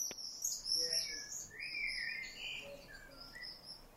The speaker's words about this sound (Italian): Ecco, perché il rondone ha una voce molto acuta, molto tipica, no? E ci segna che la primavera è arrivata veramente. Eccolo qua, credo che sia un rondone lui, giusto?